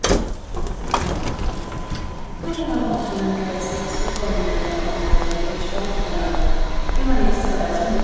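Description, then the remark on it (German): Busy train station ambience around ten o'clock: a train rumbles in with a steady mechanical whine and clanking, amid general bustle and faint indistinct voices, all fairly loud and continuous. “komme so gegen 10 am Bahnhof an”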